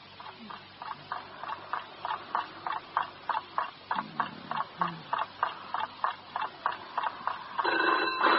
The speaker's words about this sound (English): What's that? Oh, what is it? All right, it's a phone. Oh, it's 3 o'clock in the morning. Who'd be calling us at 3 o'clock in the morning?